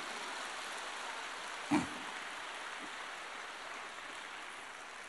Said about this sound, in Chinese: 根据你们的掌声来判断，现在有很多人已经开悟了